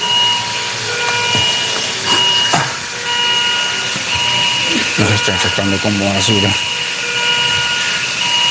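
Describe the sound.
Steady electronic alarm tones from equipment where COVID patients are treated at Hospital México ring continuously throughout, left on for hours. Layered beeps persist in the background while a person speaks briefly over them.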